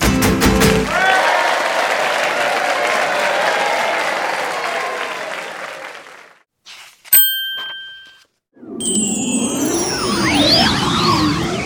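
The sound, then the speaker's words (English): A crowd applauds a dance steadily for about six seconds before the clapping fades out; a single bright bell ding follows, then a swirl of sparkling, warbling chime tones. “They are fantastic, and everyone claps.”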